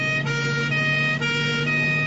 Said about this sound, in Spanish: Cuando hemos llegado al centro médico, las ambulancias con el sonido de las sirenas aparcaban en el recinto exterior y el personal sanitario corría de un lado a otro con camillas sacando heridos ensangrentados para ingresarlos en el hospital.